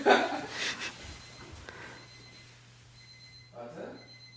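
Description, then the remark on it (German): An alarm clock rings at quarter to five in the morning, a faint, thin, steady electronic tone in the background that cuts in and out, with brief bursts of voice and breathy noise in the foreground. “Kann es sein, dass sein Wecker klingelt?”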